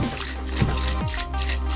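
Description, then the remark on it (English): A cocktail shaker holding muddled fresh ginger and orange slices with lemon juice, Cointreau and whiskey being shaken steadily for a couple of seconds, with liquid sloshing and squishing inside, over a constant low hum, no voices. “Shake as if you're praying to the drowned god.”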